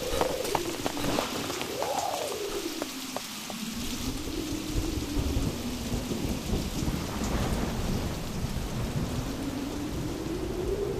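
Heavy rain pours steadily in the dark while thunder rolls and rumbles low underneath, swelling and fading over the storm's constant hiss. No voices are heard.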